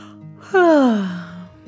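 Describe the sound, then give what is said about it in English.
A single drawn-out yawn, breathy at first, then a voiced tone sliding downward before trailing off, fairly loud. It sounds like a voice acting out a sleepy yawn. “She yawned again.”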